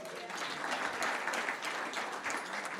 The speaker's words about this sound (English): Let's give them a clap.